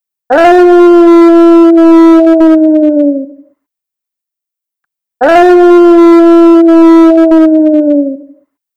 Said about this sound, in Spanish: A lo lejos, los cerditos empezaron a oír los aullidos del lobo en el bosque.